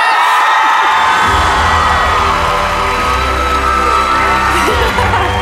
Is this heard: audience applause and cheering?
yes